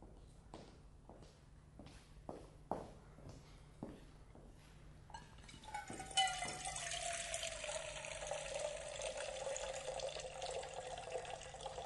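A few footsteps approach, then a tap gushes steadily into a pot, filling it with water to boil, the water's tone shifting as the vessel fills; no one speaks.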